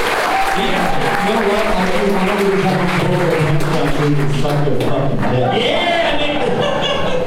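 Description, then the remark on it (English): A crowd at the ACC comedy club applauds the club's staff loudly and steadily for several seconds, dense clapping mixed with scattered cheers and voices, holding its intensity throughout. “Give a round of applause, goddammit.”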